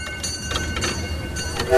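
A small train on the Robin Valley Railway in the Berkeley Hills runs with a steady, rumbling chug and irregular clattering bursts, ending in a brief high-pitched squeal as the noise swells.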